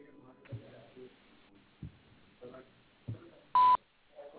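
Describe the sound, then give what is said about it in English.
A single sharp answering machine beep cuts in loud and brief, heard over a muffled phone line, with faint talking before it and again right after. “Please leave a message at the beep and I will return your call.”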